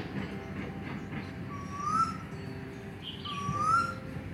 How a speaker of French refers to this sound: Partout où on va, on entend le bruit des oiseaux.